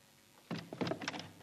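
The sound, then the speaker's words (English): After a brief quiet moment, a stiff door handle rattles and clicks several times in quick succession as the door is worked open, fairly loud, with no voices. “It's that stupid bleeding handle on the door.”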